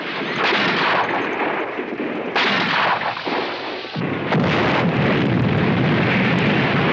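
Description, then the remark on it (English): A loud, sustained explosion of a stick of dynamite hurled at a water tower in a courtyard roars with dense, rumbling blast noise that surges in several waves over the whole stretch, with no voices present. “The explosion causes mayhem.”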